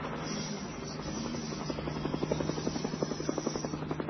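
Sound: helicopters taking off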